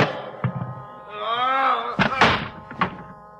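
The heavy door of a meat storage room, with a large cold handle, is heaved open: a few dull thunks, then a drawn-out groaning creak, followed by several solid clunks as it swings and settles. No one speaks.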